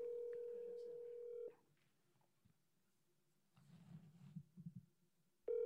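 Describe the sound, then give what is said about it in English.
An outgoing call's ringback tone, from a call placed to a person's Apple Watch, sounds twice: a steady, loud ring lasting about a second and a half, a quiet pause with faint low murmuring, then the next ring starting. “Two rings?”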